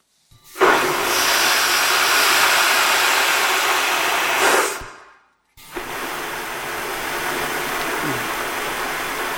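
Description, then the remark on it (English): A toilet flushes with a steady rushing hiss of water for several seconds without noise control, cuts off briefly, then a second, slightly softer whooshing flush using a quiet-flush noise-reduction system continues to the end. No voices. “The second you will hear illustrates the effect of BYU's quiet flush that reduces the toilet's noise levels to the gentle whir of a vacuum cleaner.”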